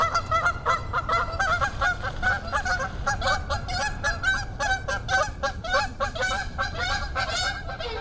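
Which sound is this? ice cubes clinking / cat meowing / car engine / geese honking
geese honking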